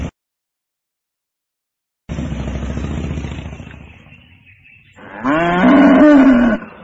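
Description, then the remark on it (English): Two loud cow moos, one long low call followed after a pause by a higher, strained bellow, with no other sound around them. “They're cows.”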